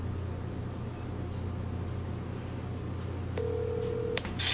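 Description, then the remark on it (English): A telephone rings on the line while a dropped call is being reconnected, a single steady electronic tone lasting under a second, sounding over a constant low hum and hiss of line noise, with no voices. “Oops, I guess we lost our connection there. We'll try to reconnect here. So something happened to our phone line.”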